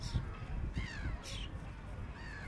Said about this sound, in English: Now there's crows.